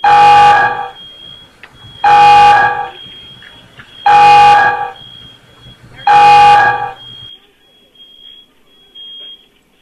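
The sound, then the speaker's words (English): A loud kitchen fryer alarm buzzes in four harsh, evenly spaced blasts about two seconds apart, each roughly half a second long, with a faint steady electronic tone lingering between them, signalling that fries need to be pulled out of the fryer. “If it's beeping, they need to do whatever it is to make it stop. Pull the fucking fries out of the fryer, lady.”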